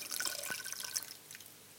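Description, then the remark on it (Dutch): Water is poured as a demonstration of how water flows, trickling and splashing in a steady, fairly quiet stream with a few distinct drips, tapering off toward the end; no one speaks. “We moeten vloeibaar zijn, zoals water vloeibaar is. Ik heb dat al voorgedaan, maar ik zal het nog een keer tonen om te tonen hoe dat werkt.”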